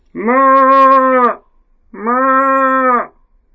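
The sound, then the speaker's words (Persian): A person imitates a cow with two long, drawn-out moos separated by a short pause, each steady and fairly loud, with no other background noise. “منم گاو سیاه، دارم زیر بارون خیس میشم، در رو وا کن ننه پیرزن.”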